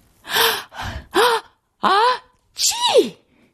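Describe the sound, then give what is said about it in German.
A voice acts out a snowman's forceful sneeze: several short, breathy, voiced bursts build up, then a longer, loud sneeze ends with a sharply falling pitch. “Der Schneemann niest so kräftig, dass ihm der Topf vom Kopf rutscht und die Schneeflocke mit Schwung weggeschleudert wird.”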